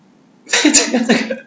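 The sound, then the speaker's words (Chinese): A single loud sneeze-like burst after a short quiet pause, harsh and breathy, trailing on for about a second; it sounds like a person imitating a sneeze, standing for a dragon sneezing. “这个当时两位出家人回答说，龙打个喷嚏，”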